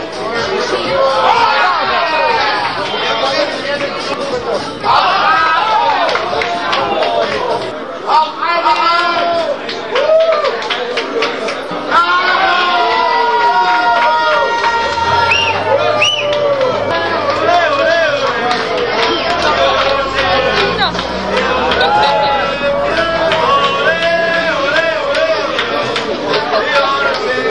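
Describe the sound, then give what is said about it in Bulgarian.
A large crowd in the Bulgarian capital, gathered late at night for a public screening of Grigor Dimitrov's match against Stan Wawrinka in Madrid, cheers and shouts nonstop, a loud, dense roar of many overlapping voices with excited whoops rising above the din throughout. “Ако не вярвате, ето доказателството. Секунди от атмосферата в столицата с нощи.”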